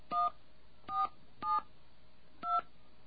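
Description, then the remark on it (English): Four short telephone keypad tones beep in an uneven rhythm as a phone call is dialed, each a clear dual-pitched chirp lasting a fraction of a second, with brief gaps between presses and no voices. “All right, let's make a phone call here. And those of you who can translate, you'll know what these little tones mean.”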